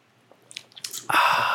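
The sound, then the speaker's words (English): A sip of a shaken daiquiri cocktail made with simple syrup: a few small wet lip clicks, then a sustained, airy slurp that fills the last half second. No one speaks. “We're back with a daiquiri in hand.”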